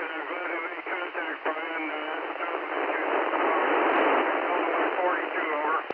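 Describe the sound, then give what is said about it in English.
A faint, muffled voice comes through steady, narrowband ham radio static, the hiss continuous and fairly loud, with the weak speech half buried beneath it for the whole stretch. “Again, you're really weak.”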